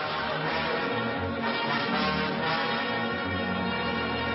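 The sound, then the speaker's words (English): A large old mission church bell rings out in cold weather with rich, sustained overtones, its strokes blending into a continuous, reverberant clang that stays loud and steady throughout, with no voices. “There it is, the big bell in the Robin's old mission there.”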